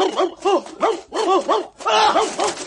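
dog barking

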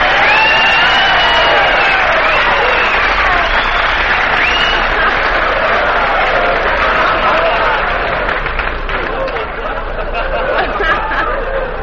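audience whistling

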